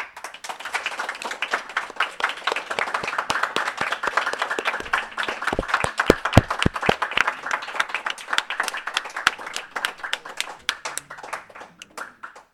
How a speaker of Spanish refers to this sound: pero polo resto non tedes nada que envesar o que hai nos programas de verdade, e iso sí que se merece un aplauso.